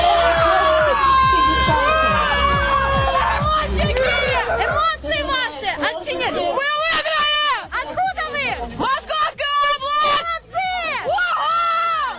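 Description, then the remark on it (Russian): A crowd cheers on a tug of war at a trade union sports event in heavy rain, loud and steady: rhythmic pulsing shouts for the first few seconds, then a jumble of overlapping excited yells and high-pitched screams. “А тут тянут канат. Вы только послушайте, какие эмоции!”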